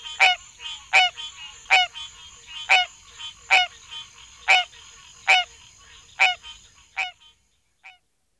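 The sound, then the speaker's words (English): A hybrid of green tree frog and barking tree frog gives a steady series of about ten nasal, quacking calls, evenly spaced under a second apart, loud, with a fainter final call after a short pause. “And third, the intermediate quack of a hybrid.”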